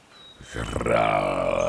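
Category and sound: animal, bear roaring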